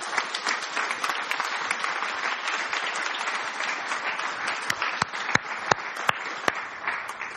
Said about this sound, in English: When you find everything's working smoothly at the back there, just make sure you thank them. And let's give them a round of applause now, shall we?